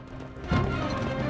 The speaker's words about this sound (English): A man rides quickly down a sand dune on a white horse.